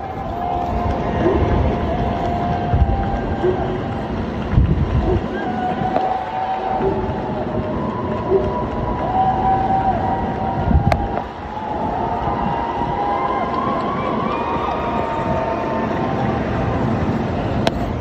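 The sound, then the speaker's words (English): A steady, loud outdoor din of neighbourhood cheering at 7 o'clock, recorded through an opened window, goes on throughout, a dense wash of clapping and shouting with a few higher whistle- or horn-like tones rising above it, and no clear talk. “They're getting cheers every day at 7 o'clock.”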